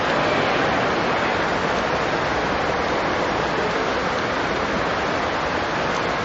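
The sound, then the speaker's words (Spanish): A dense, steady hiss of heavy rain pours down without pause, loud, filling the whole stretch evenly with no voices or other sounds. “Gracias a Dios por la lluvia, ¿no?”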